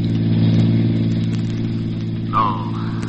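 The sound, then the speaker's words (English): A car engine drones steadily at a low, even pitch as the car speeds along a familiar highway toward the county seat, with a brief higher squeal rising over it near the end. No one speaks. “And as his car sped along the familiar highway, we heard...”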